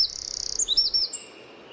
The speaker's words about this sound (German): Oh, das klang wie ein abgehackter Zaun, meine ich ein bisschen. Ja. Es war ein Zaunkönig.